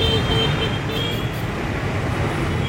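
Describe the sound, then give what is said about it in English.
Steady street traffic with motor scooters buzzing past, a continuous engine drone filling the background at a fairly loud, even level, with a faint high whine running through it. “Scooters going by.”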